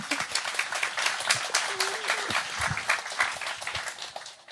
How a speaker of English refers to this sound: Great. Thank you. Good job. Yeah, we can clap.